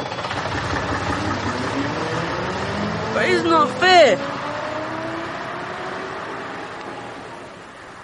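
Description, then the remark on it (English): A bus engine rumbles steadily at idle, then its pitch climbs as the bus pulls away and gradually fades. A voice briefly speaks over the engine noise partway through. “I'm not letting you on my bus like that.”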